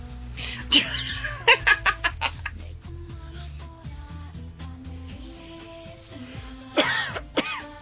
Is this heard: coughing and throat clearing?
yes